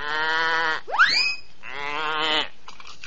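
A goat bleats twice in long, wavering, nasal calls, fairly loud, with a brief rising squeal between them and no voices.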